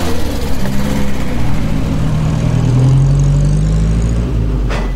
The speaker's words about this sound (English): The motor car zoomed along the country lane. A panicked cyclist, who'd never seen or heard such a vehicle in his life, feared he would be crushed, and he drove into the hedge at the roadside.